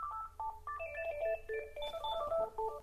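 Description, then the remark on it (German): A telephone with a handset rings with an electronic ringtone, a quick melodic run of short beeping tones at shifting pitches, steady, with no one talking. “greift nach dem Telefonhörer.”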